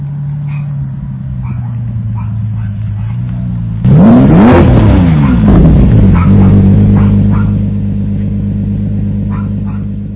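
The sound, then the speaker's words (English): A Lamborghini sports car engine idles with a deep, steady rumble, then roars into a loud rev around the middle before settling back to a throaty idle as the car pulls up to a house. “And then a couple Sundays ago, a friend of mine lent me his car for the afternoon. Here's me pulling up to my house.”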